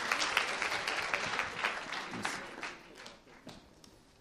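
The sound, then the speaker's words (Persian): An audience at a coaching group session applauds steadily, a dense patter of many hands clapping that gradually thins and softens toward the end, with no voices heard. “مرسی مرسی، تشویق کنید تو بزرگ آقا.”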